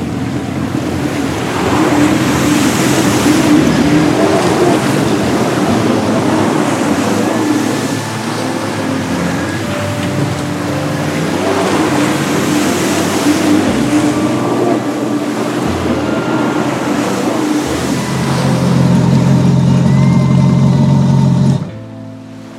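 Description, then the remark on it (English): A water scooter being ridden back to the shore roars steadily across the water, engine droning with splashing and wave noise, the pitch rising near the end before cutting off abruptly. “Now, let's bring this water scooter back to the shore.”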